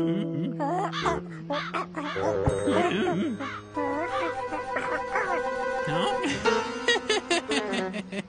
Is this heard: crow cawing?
yes